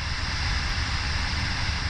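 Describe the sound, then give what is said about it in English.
A steady, unbroken hiss of white noise, used as a test sound in a study of how basic sounds are transmitted, spread evenly across the whole range from low rumble to high fizz, holding a constant loudness for two seconds with no voices. “We're also looking at white noise, which covers a large range of frequency.”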